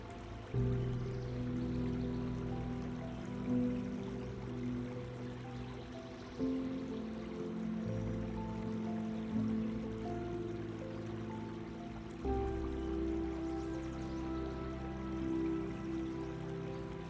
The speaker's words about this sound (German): Konzentriere dich nun auf das Geräusch des Wassers und lass alle anderen Gedanken los.